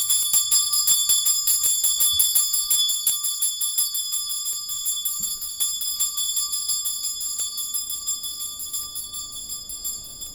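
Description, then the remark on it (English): A handheld wake-up bell at a Zen meditation retreat rings rapidly and loudly at about 6 in the morning, a fast run of bright metallic strikes whose clear tone lingers and slowly fades as the ringing grows sparser. No voices. “The wake-up bell goes at sort of 6 o'clock in the morning, and Zazen starts at 6:30 in the morning.”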